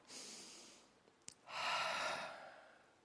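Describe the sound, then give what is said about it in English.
A slow, deep breath drawn in, a short pause, then a long audible exhale, breathy, with no talking. “Just take a deep breath with me.”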